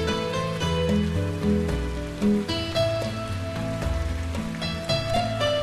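Steady rain patters continuously beneath a soft, sustained musical backdrop of held tones, with no one speaking.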